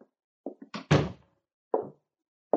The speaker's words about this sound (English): Close the door, Sergeant. Yes, sir.